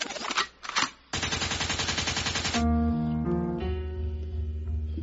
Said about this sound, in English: a gunshot means forward.